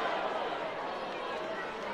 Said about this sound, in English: Sellout overflow crowd here at Cheney. Attendance has been great this season. Fans have really supported the club.